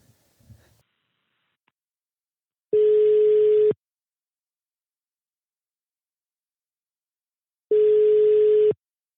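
A phone call rings out on the line: two steady, moderately loud ringback tones, each about a second long and spaced several seconds apart, after a few faint clicks at the start.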